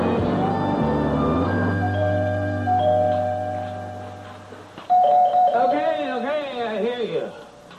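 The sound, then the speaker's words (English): A chiming doorbell rings out in a few stepped, descending tones that hang and fade for several seconds, then a person starts talking right after. “Doorbell this early in the morning, you better be prepared for what you're about to see.”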